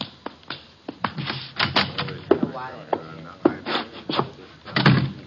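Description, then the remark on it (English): A door is opened and shut amid a scatter of sharp clicks and knocks, latch and footfall sounds, with faint murmuring voices underneath. “The door, Chuck.”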